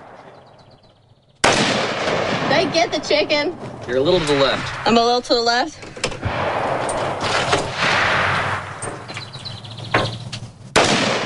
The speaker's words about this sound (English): I want to shoot the AR-15.